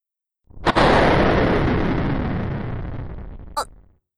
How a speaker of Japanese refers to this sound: 停電？今の雷かしら。